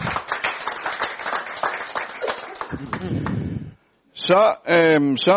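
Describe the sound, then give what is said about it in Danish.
Shareholders at an annual general meeting clap for about four seconds to approve the annual report. It is a dense patter of many hands that fades out, followed by a short pause and then a man speaking. “Så hvis man klapper nu, så årsrapporten også godkendt.”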